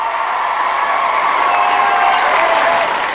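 A crowd applauds steadily, a dense wash of many hands clapping at once, loud and sustained for the full stretch without pause or any voices breaking through.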